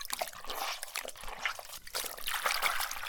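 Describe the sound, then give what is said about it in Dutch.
Water trickles and splashes gently in a bath, a continuous wet dribbling with small sloshes, no voices present. “Is het water warm genoeg?”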